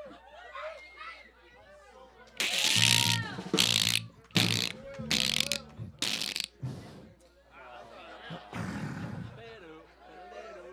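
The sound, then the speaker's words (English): A person imitates a cicada with about five harsh, buzzy vocal bursts in a rough rhythm, loud and raspy, framed by quieter chatter and talking before and after. “That's not a very good cicada, but...”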